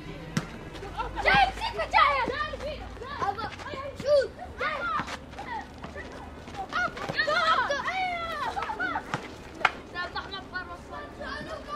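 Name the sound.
children shouting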